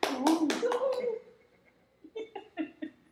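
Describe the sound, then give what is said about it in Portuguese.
A short burst of hand clapping with a voice cheering over the first few claps, then a pause and a few more quieter, uneven claps trailing off. “Aê! Palmas!”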